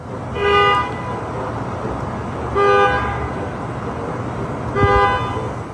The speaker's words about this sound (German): Das war ein autonomes Hupen. Und das kam daher, dass dieser Parkplatz voll von Waymos, der war irgendwann relativ voll und es führte dazu, dass sich jetzt nicht nur einmalig, sondern quasi jede Nacht diese autonomen Autos gegenseitig anhupen.